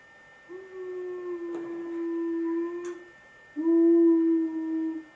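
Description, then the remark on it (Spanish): A child's voice imitates a flying airplane with two long, steady droning hums, the second louder, separated by a short pause. “Iba volando en avión, ¿a que sí? ¿Cómo vuelvo a Juan? Así.”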